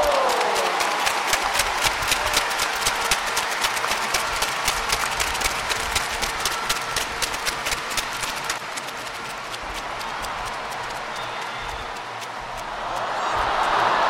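The crowd at Old Trafford during the England v Austria women's football match roars steadily, growing edgy, with rapid, rhythmic clapping running through the first half, then the noise dips briefly before swelling louder again at the end.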